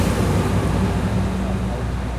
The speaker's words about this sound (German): Lastwagen.